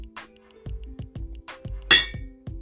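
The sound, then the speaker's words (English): Glasses clink in a toast: a bright glassy clink rings out sharply amid a busy, rhythmic backdrop of low thumping beats, with a few softer clinks around it, fairly loud. “So let me take one more shot. And one more cheers.”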